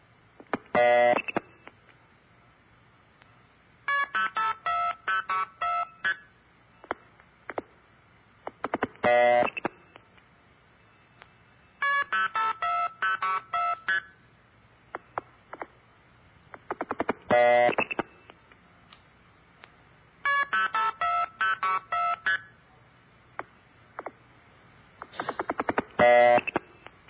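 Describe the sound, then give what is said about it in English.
Clear, steady bursts of telephone trunk signaling tones repeat in groups: rapid strings of short beeping tone pairs, each framed by longer tones at start and end, the key pulse and start tones, separated by brief pauses. No talking. “There are two tones at the beginning and at the end. One is called the key pulse and the other is start, and the announcer failed to mention that.”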